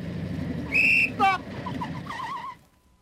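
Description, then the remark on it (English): A motorcycle engine rumbles low and steady, breaking into a couple of high, whining revs that rise and fall before the noise fades away after about two and a half seconds. “Up came a motorcycle.”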